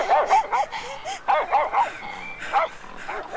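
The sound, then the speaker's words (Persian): A shepherd's sheepdog barks in a quick, excited series of about eight sharp yaps, fairly loud, with short gaps between them and no talking. “اگه آقای چوپان و سگ گله نمی آمدن از پشتم، گرگ بره میخورد.”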